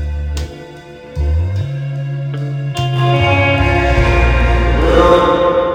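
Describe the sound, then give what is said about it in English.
Loud, sustained music drenched in an echo effect, with low bass notes shifting and a dense, smeared wash of tones building up toward the end; no voices. “I just killed it with a bit of echo”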